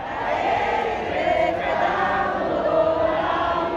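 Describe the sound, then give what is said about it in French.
A large crowd at the Casa Rosada in Buenos Aires, Argentina, sings the Venezuelan national anthem together in a loud, sustained mass of voices, with cheering swelling through it, as Edmundo González Urrutia and Javier Milei appear on the balcony; the dense chorus holds steady throughout without pause. “Les parents hissent leurs enfants sur leurs épaules, la foule exulte et entonne l'hymne national vénézuélien.”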